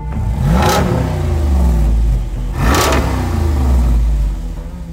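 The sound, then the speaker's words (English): A deep 392 V8 muscle car engine in a Jeep revs hard twice in quick succession, each surge rising in pitch with a throaty roar, over a steady low rumble; loud, no voices. “This is a muscle car engine in a Jeep.”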